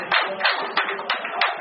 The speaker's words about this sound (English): When the final whistle blows, the fans applaud their team.